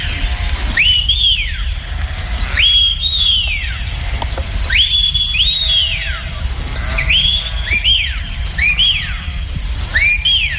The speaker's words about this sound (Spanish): Ni se me hubiese imaginado, de verdad. Yo conocía el silbo gomero, conocía el trato entre personajes de islas pequeñas, pero los silbidos como forma de comunicación con la ganadería me deja perpleja. Silbidos y otros sonidos.